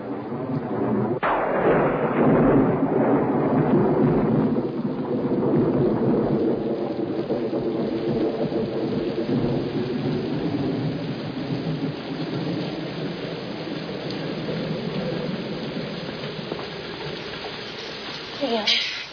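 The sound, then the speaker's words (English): A thunderstorm: a sharp crack of thunder breaks out early and rolls into a long, deep rumble over a steady, heavy downpour of rain that hisses on without a break. “Well, train's got to let up soon.”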